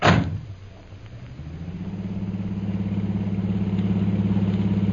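A taxi door slams shut with a sharp, loud thud, followed by a steady, low engine rumble that idles and gradually swells as the taxi starts to pull away. No voices.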